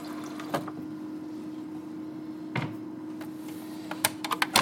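Water runs steadily from a dispenser with a constant low hum underneath, broken by a few sharp clicks and taps, especially toward the end. No one speaks.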